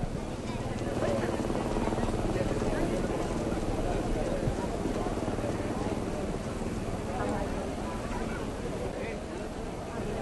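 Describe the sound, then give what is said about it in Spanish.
Helicopter rotor blades whir in a loud, steady, rapid chopping beat, continuing without pause for the full ten seconds, heavy with low rumble. “Ese ruido son las aspas del helicóptero.”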